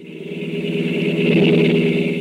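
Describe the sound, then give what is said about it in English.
A car engine roars with a steady droning hum, swelling louder toward the middle and then easing slightly, like a car rushing by at high speed. No voices. “But it was a car, all right, Max. Going like blazes, too.”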